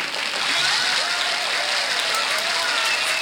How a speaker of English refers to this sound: Yay, we did the applause button. We have the applause button there.